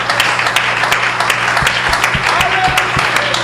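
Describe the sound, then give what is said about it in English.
An audience claps their hands to the Lord during a bilingual English-Spanish worship service, many hands in a dense, continuous patter with scattered sharper claps standing out, loud and sustained throughout with a low hum underneath. “One more time, would you clap your hands to the Lord? Un aplauso al Señor.”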